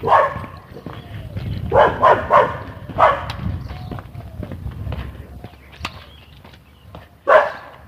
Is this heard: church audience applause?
no